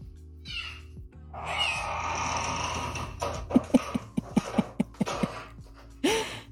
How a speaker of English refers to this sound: Oh, cute. It's a cat.